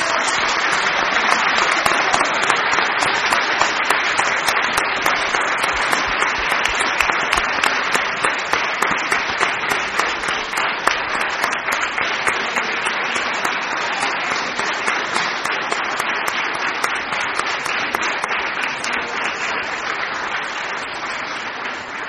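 Sustained audience applause in Tandil for about twenty seconds, honoring people who care for disabled children, a dense, steady wash of many hands clapping at once, loud, with no voices rising above it.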